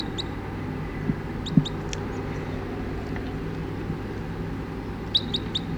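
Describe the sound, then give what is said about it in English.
About 20 crossbills that have just settled in the trees give short, sharp, high-pitched kip notes in small bursts of two or three, once near the start and again near the end, fairly soft over a steady low rumble, at about 9 o'clock. “20 crossbills just sat down in the trees here and it's about 9 o'clock now”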